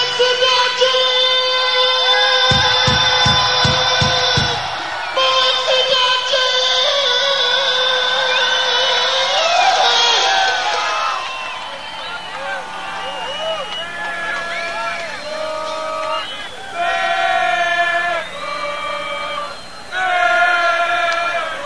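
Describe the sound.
A huge concert crowd chants a football cheer in unison, loud and sustained, with massed voices swelling and falling into rhythmic, repeated syllables toward the end.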